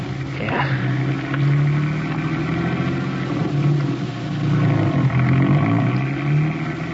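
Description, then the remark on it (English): A car engine turns over and settles into a steady running hum, its low drone rising and falling slightly as it idles and revs for several seconds with no voices. “Get the car going. Let's get there.”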